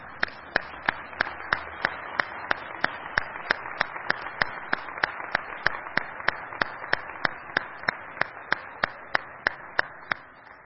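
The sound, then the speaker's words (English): An audience applauds the speaker's parents and family as they stand, steadily for about ten seconds, a dense wash of clapping with one sharp, evenly timed clap punching through at a quick regular beat. No one speaks. “And I'd like you to give them a first press round of applause.”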